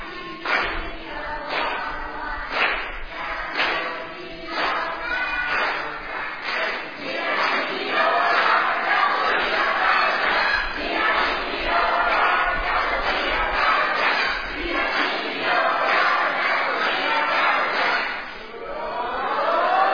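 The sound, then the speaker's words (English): The Green Team, part of a large group, cheers and chants loudly together in a team cheer contest for about twenty seconds, a sustained roar of many voices with rhythmic shouted bursts and some clapping mixed in. “We're going to be giving away 300 points to the team that does the best cheer, the loudest, the most involved, the most participatory.”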